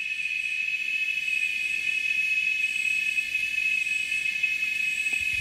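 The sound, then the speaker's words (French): Cicadas in the French Guiana Amazon drone in one continuous, shrill, high-pitched whine that holds steady and loud throughout, with a fainter higher shimmer above it and no voices. “Voilà, les cigales de l'Amazonie guyanaise, en l'occurrence, c'est pas du tout les cigales de la Provence, hein.”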